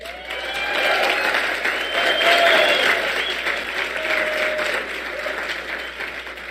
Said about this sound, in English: This is easy applause, by the way. I didn't earn it like you did.